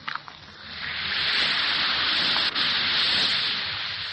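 An Alka-Seltzer tablet fizzes steadily in water, a dense, hissing crackle that starts with a few small pops, swells within a second, and holds at an even level with no talking.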